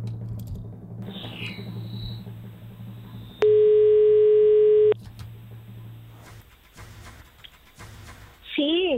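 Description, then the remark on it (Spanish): A loud, steady telephone ringing tone sounds for about a second and a half over a low background hum, followed by a few faint clicks and rustles, as a Radio Olé presenter dials the weekly contest winner. “Pues voy a marcar porque ya tenemos el nombre de la persona ganadora. Vamos a ver si coge el teléfono.”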